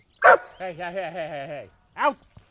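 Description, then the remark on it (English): A dog, Boomer, barks sharply at a cabin on a lake near Fort Leavenworth, Kansas, lets out a long wavering whine or howl, then gives one more short bark before going quiet. “His dog, Boomer, likes to chase him.”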